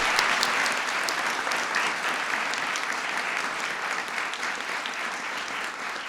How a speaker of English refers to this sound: Unbelievable stuff. Give Harry a big round of applause.